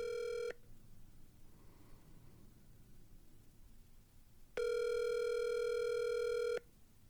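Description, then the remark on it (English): An outgoing phone call's ringback tone, calling Elliot Kalin of The Flophouse: a short electronic ring burst, then about four seconds of quiet line hiss, then a longer two-second ring, steady and clear, with no one talking. “Let's see if we can get him on the phone.”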